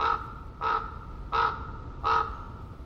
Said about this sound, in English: Prairie Creek, Redwood State Park, an ancient forest. Fog lays heavy among the towering redwoods and hemlocks. A raven calls out.